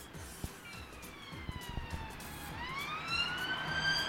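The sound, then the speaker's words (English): A police car siren wails through steady city traffic on a London street, its rising and falling tone shifting in pitch as the car passes and growing louder toward the end, with no one speaking. “Thought I'd wait for the police car to go by.”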